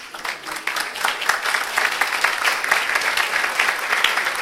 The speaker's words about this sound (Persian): تشویق کنین.